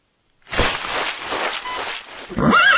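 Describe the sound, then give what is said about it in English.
A horse named Ghost, owned by Patrick Swayze, neighs loudly: a long, breathy, rumbling whinny that ends in a higher, wavering cry. No one speaks. “Great horse.”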